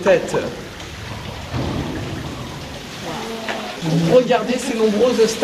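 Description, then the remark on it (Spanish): Water drops fall in a steady, dense patter onto stone in a limestone cave with stalactites, at an underground lake known as the lake of rain, with a voice briefly rising over it near the end. “Y a pesar de las gotas de agua, miren hacia arriba.”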